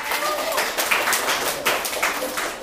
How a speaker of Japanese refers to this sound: お、じゃあ、女の子、はい。よく知ってるね。正解、拍手。